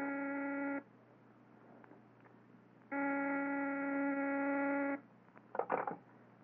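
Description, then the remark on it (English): A harsh electric telephone buzzer in an office rings twice in long bursts, each about two seconds, with a pause between, loud, followed by a brief clunk or rustle. “Mr. Van Dyke is on the phone.”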